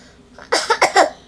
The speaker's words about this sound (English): That ducky made you cough.